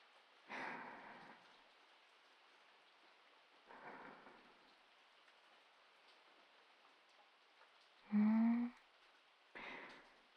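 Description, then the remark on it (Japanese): Steady rain hisses evenly throughout, with several louder, rumbling bursts of thunder breaking through at irregular intervals. No one speaks. “雨の音っていいよね。心が安らぐ感じ。”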